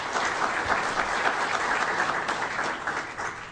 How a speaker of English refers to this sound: So can we give the event sponsors a round of applause, please?